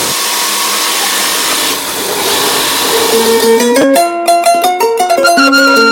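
An electric sewing machine runs steadily with a whirring motor hum, then its pitch rises and shifts in quick stepped bursts as the speed changes. Fairly loud, with no voices.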